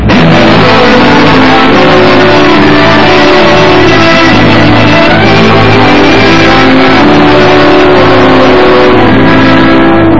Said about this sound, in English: go forward and start the engines. We're heading for the mainland.